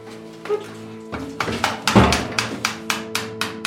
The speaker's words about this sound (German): Im Keller des Altbaus in Halle kommt die Gasheizung deshalb raus. Einer der Handwerker schlägt mit Hammer und Meißel das alte Wandfutter für das Abgasrohr aus dem Mauerwerk.